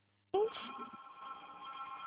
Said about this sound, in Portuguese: Desculpa, eu não consegui te ouvir por causa do telefone.